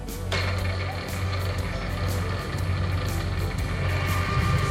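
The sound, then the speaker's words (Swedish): A drilling machine runs for one minute inside a restaurant, steadily and fairly loud, its low droning hum underneath a constant grinding, whirring mechanical noise that kicks in almost immediately and holds throughout. “Och de skulle köra bordmaskinen 1 minut.”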